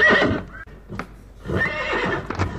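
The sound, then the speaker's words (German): A horse gives a loud neigh, pauses briefly, then lets out a second, longer whinny with a snorting finish as it suddenly stops in a snowstorm at an open town gate. “Aber genau in diesem Moment blieb das Pferd plötzlich stehen.”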